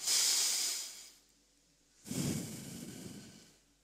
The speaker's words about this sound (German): Also, wir atmen jetzt alle mal durch die Nase ganz tief ein und wieder aus, okay? Machen wir alles zusammen.